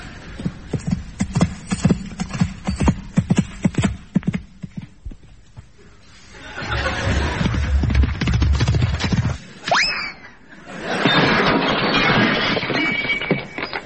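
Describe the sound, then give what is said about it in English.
A show-jumping horse ridden by David Broom jumping against the clock: hooves thud in a quick, uneven rhythm for several seconds, then give way to broad rushing noise, a brief rising tone, and another long swell of noise. “Oh, yes, that's, David Broom jumping against the clock.”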